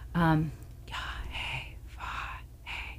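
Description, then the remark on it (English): A voice demonstrates a breathy sound: a brief voiced gasp, then several long, airy exhalations in a slow rhythm, close and fairly quiet. “That's the breath sound.”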